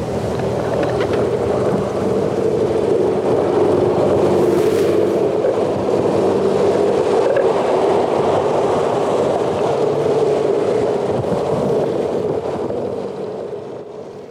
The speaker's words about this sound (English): We can't hear the dolphins, of course, but what we can hear is the terrible din of all these ships' engines and propellers. It's a bit like an underwater M1 with all the traffic bumper to bumper in both directions.